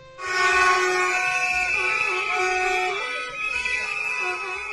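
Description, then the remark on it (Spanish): A dense chorus of car horns blares continuously in a Wednesday afternoon protest in the centre of Pontevedra, Spain, over the closure of the Rías do Sur complex, many overlapping honks at different pitches sounding together loudly and steadily for several seconds, with no speech. “Este sonido que escucháis, estas pitadas, estas bocinas, todo se produjo en la tarde de ayer.”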